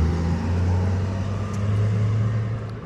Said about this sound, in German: Ja, hier fahren immer gerne Trecker über den Kanal. Mm. Jetzt kommt wieder einer. Es ist ein bisschen lauter, aber er gibt Gas.